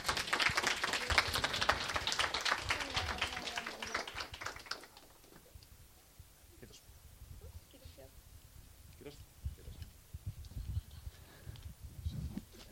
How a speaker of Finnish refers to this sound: Kiitämme, annamme aplodit, raikuvat sellaiset.